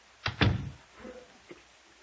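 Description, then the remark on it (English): A door swings shut with a quick double knock, a sharp click and then a heavy, booming thud, followed by a few faint shuffling sounds. “shut the door.”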